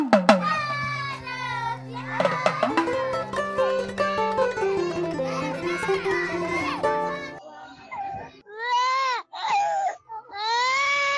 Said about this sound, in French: Comprendre les pleurs des enfants et les soulager, c'est le sujet que le magazine Tous les enfants du Mali aborde aujourd'hui.